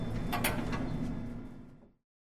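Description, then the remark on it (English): Airport elevator doors slide open at the second floor, the departures, check-in and bag drop level, with a low, steady mechanical rumble and a brief rattle near the start, running about two seconds before stopping abruptly. No voices are heard. “Doors opening. Second floor.”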